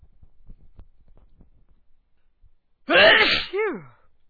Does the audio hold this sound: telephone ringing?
no